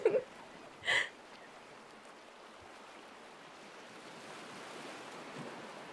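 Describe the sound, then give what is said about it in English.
Steady surf washes onto a beach, a broad continuous hiss of breaking water that swells slightly toward the end, with a couple of brief sharp bird-like chirps near the start. “The water is so clear and the sand almost looks like it's glowing.”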